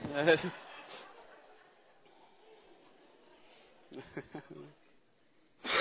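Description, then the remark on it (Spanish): A person with a summer cough coughs in a rough burst, then after a quiet stretch breaks into a quick cluster of several harsh coughs, with one more starting at the very end. “Esta tos. La tos del verano es la que más me afecta.”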